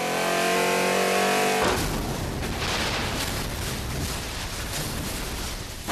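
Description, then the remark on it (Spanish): A luxury car accelerates hard to 180 km/h on Paseo de la Reforma in Mexico City, its engine whining at a steady pitch before breaking into a loud, rough roar that holds for several seconds, with no voices. “Raimundo acelera a 180 kilómetros por hora”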